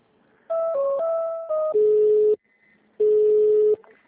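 A telephone line ringing as a call to a city hall is put through to the personnel (HR) department: a run of short stepped electronic tones, then a steady mid-pitched ring tone, a pause, and a second identical ring. No voices.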